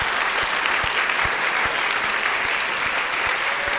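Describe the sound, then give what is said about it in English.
Sustained applause from the live audience of a program, a dense wash of many hands clapping steadily at full volume, with no speech over it. “We also want to thank everyone in our live audience for participating in the program. Give yourselves a round of applause.”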